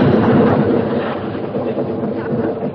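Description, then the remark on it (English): A long, loud roll of thunder from an approaching storm, a steady, deep rumbling roar that holds for nearly three seconds without breaking, with no voices over it. “Sounds like a storm is coming up.”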